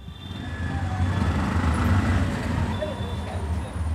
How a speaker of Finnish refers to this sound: Keltainen moottoripyörä ajaa pitkin Mogadishun vilkkaita katuja ohi muistomerkin, joka pystytettiin tuhoisan pommi-iskun jälkeen.